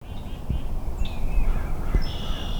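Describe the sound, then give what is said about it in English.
A dawn chorus just after sunup on a bitter early March morning at Maine Audubon's Gilsland Farm in Falmouth, Maine: several birds call and whistle at once in the open air, thin high notes and a few harsh caws overlapping against a steady low rumble of background noise. “It's just after sunup on a bitter early March morning, but the temperature can't stifle a dawn chorus of birdsong that fills the air at Maine Audubon's Gilsland Farm.”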